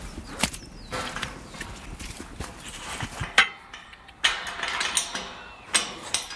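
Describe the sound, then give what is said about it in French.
A door being opened into a walled release enclosure for crows: a run of sharp mechanical clicks and wooden knocks, a rattling latch-like burst midway, then a few more scattered thuds and scrapes, moderately loud with no talking. “La porte qu'on vient d'ouvrir ne doit pas forcément beaucoup influencer les corbeaux, où sommes-nous?”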